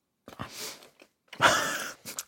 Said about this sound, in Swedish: Men jag sitter här igen och smaskar. Ska det här vara så här?